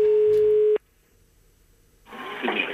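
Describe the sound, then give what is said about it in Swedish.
A single steady electronic telephone ringing tone sounds for under a second, then cuts off to near silence before a hissy, open-line noise rises as a call from a Minitaxi taxi driver connects. “Och då ringer chauffören.”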